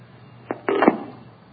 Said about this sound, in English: And there's the phone at the other end finally ringing.